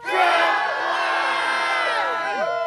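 A large group of people crowded in for a big group selfie shouts "Trump won" together in unison, loud, a single sustained chorus of voices lasting a couple of seconds before trailing off into scattered cries.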